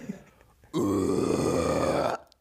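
A single low, rough scream from one person, loud and sustained for about a second and a half, starting abruptly and cutting off sharply, with near silence before and after.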